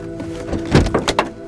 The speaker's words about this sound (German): Er öffnet die Tür und hält sich am Griff fest. Angespannt schüttelt er den Kopf. Er schlägt die Tür wieder zu.